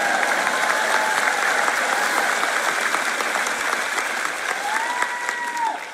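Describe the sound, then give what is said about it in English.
A crowd claps and cheers steadily for about six seconds, a dense wash of applause with scattered whoops and shouts rising above it, staying loud throughout before easing slightly at the end. The crowd responds to a call to clap and make noise after a Bible passage is read. “Now you can clap and make noise.”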